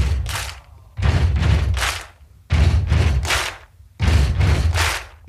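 The four members of a band stomp and clap in a recording studio: heavy, booming foot stomps and sharp, layered hand claps repeat in a steady stomp-stomp-clap rhythm, about four rounds, loud and with no voices.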